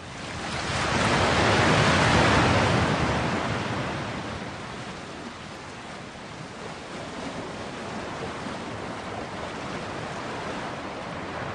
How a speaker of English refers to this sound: The next one is waves.